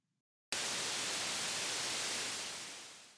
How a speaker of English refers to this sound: There was a moment of static that made Quinlan's heart stop.